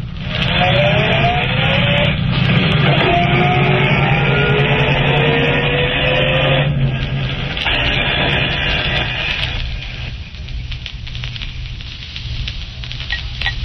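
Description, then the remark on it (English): A car engine roars as the vehicle pulls away at a green light and accelerates, its pitch climbing through several gear shifts before the noise thins out as it drives off. “I said I'll wait in the car. Go ahead, the light's green.”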